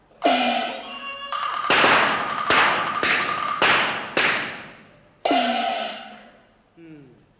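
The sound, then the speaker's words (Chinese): About seven loud gunshots crack out in a ragged, irregular burst, each with a short echoing tail. Drawn-out shouting voices frame them at the start and after a brief pause, bandits shouting that the Communist army has come and to open fire. The shots are staged as a test. “有枪声，八成二零三首长 跟着小土匪追下来了吧？”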